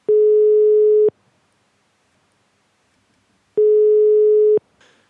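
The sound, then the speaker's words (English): A phone call to the Brewdog Berlin Mitte bar in Berlin ringing out: two steady one-second electronic tones separated by a long silent gap, heard clearly with no voices. “Let's phone a German restaurant and let's book a table”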